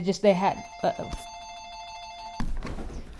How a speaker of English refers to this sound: All right, the phone rang.